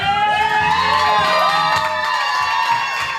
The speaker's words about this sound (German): Es ist warm, aus den Boxen schallt aber dann die Nachricht, Lauren Baer hat es geschafft. Sie wird die Kandidatin der Demokraten im 18. Wahlbezirk in Florida. Der Jubel ist ohrenbetäubend.